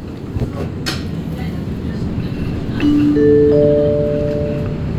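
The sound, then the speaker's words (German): Inside a moving train carriage approaching Halle main station, Germany, where the train ends: a steady, loud low rumble of wheels and car body, with a brief clatter early on and thin high squealing tones rising near the end. “Nächste Station, Halle, Hauptbahnhof. Dieser Zug endet dort.”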